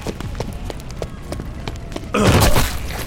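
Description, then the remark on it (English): Quick, steady footfalls race forward as a person charges, then smashes into a disfigured, cloaked creature: a loud, heavy body impact, a thick thud with a rough, scraping burst that lingers for a moment. “His mag empty, he took a deep breath and charged, smashing into the disfigured thing.”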